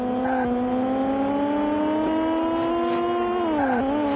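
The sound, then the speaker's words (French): A synthetic car engine from a racing game drones steadily, its pitch climbing slowly, then dipping and rising again near the end, loud and continuous with no talking. “Regardez le décor, sa vitesse de défilement, écoutez le bruit du moteur.”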